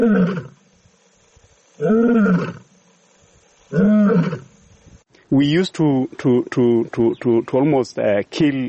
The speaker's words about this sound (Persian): ما تقریبا هر شیری رو که صدای غرشش در امبروسلی میشنیدیم میکشتیم، حتی اگه شیر هیچ چه کاری نکرده بود.